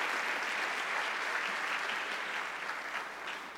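Sustained audience applause for the panelists at a Chamber of Commerce event, a steady wash of many hands clapping at moderate volume, continuing evenly throughout without any voices standing out.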